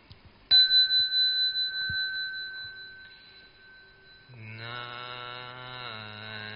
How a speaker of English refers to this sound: Okay, I will start off by ringing the bell.